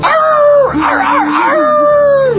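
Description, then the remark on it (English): A person howls like a wolf, a loud, drawn-out howl that dips and wavers in pitch, rises again, then trails off, with no talking. “We're going to howl at the moon, goddammit.”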